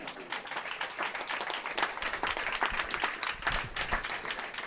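A crowd applauds steadily for several seconds, a dense wash of many hands clapping at fairly even loudness throughout, with no voices standing out; applause welcoming co-moderator Basti Kampmann of Casala.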